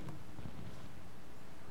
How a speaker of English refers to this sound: I hear it thundering in the background, preaching up a storm.